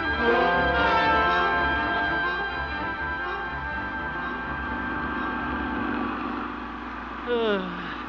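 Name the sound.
tractor engine running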